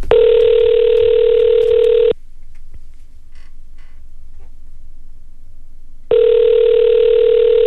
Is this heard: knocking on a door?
no